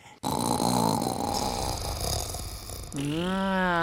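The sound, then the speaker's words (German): A person imitates a loud, rattling snore for fun, one long raspy breath that ends in a voiced, wavering groan, with no speech. “Also, wenn Pflanzen wirklich schlafen, ich hätte es ja nicht gedacht, schnarchen sie dann auch?”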